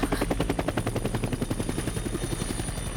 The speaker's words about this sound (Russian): Бомбардировка? О. Трансляция фейерверков. Они сегодня вроде как намечались. Фейерверки.